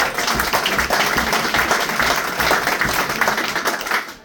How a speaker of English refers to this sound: So give yourselves a big round of applause, lads. It's a great club.